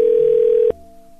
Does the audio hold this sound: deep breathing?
no